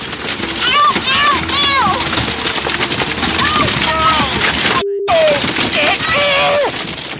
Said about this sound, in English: Within what seems like just a couple of minutes, the boat is filled with at least 20, couple of dozen. You hear the cries of distress from the boaters and the sounds of the jumping fish.